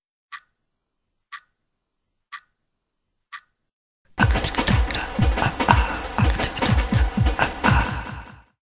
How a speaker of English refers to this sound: Inside her room, there was no sound but the ticking of the clock.